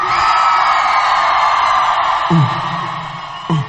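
A loud crowd screams and whoops continuously, a dense wall of shouting voices with individual whoops rising out of it near the end.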